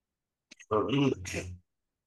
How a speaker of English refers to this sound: Excuse me. I coughed.